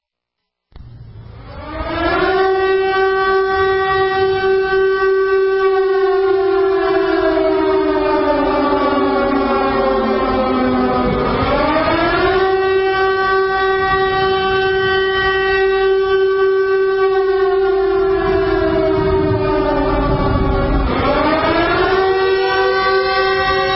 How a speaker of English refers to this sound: Siren going off, and you know that means it's an emergency.